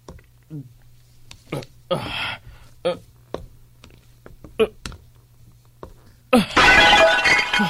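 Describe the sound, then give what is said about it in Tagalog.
Scattered soft knocks and shuffling handling noises, then a large, heavy flower pot with a plant slips from someone's hands and shatters with a sudden loud crash that rings on with clattering debris until the end. “Biglang tumulas ang paso sa kamay ko. Nabasag ko tuloy.”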